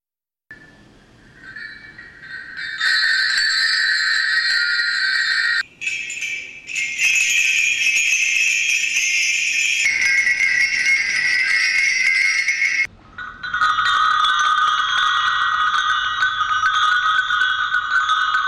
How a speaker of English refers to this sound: When he needed anything, he would ring the bell to call me.